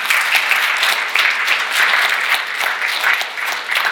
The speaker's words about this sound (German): Lass uns nochmal klatschen für die Zuschauer heute Morgen. Amen.